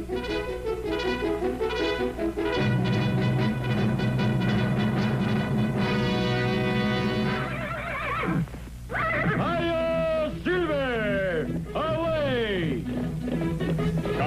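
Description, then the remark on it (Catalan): Loud, sustained vocal tones give way to a shrill, wavering horse whinny with several quivering falling cries, seemingly a person imitating a neighing horse, from the Latin American Spanish version of El Llanero Solitario (The Lone Ranger). “2, el renill del cavall és correcte i gairebé clavat.”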